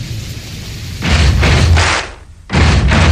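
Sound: knocking on a door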